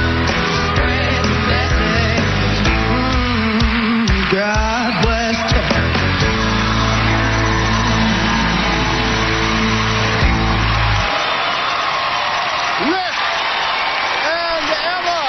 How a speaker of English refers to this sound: So, how did Rick Perry do? Here's the end of his dance. You can hear it yourself. Listen to the crowd.